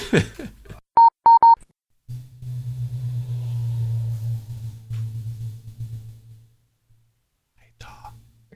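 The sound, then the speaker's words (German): A low, steady rumble of street traffic outside swells for several seconds and then fades, preceded by three short electronic beeps and a brief faint whisper. “Es ist draußen der Verkehr, habe ich schon 10-mal erzählt.”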